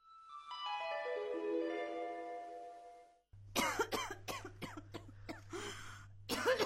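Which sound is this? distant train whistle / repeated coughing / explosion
repeated coughing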